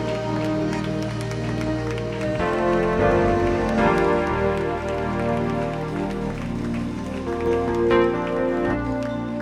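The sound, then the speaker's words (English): An audience claps loudly for the Lord, steadily for several seconds, a dense rattle of many hands sustained over sustained, droning instrumental music. “Come on, clap real loud for the Lord one more time.”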